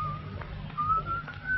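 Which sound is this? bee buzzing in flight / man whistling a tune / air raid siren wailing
man whistling a tune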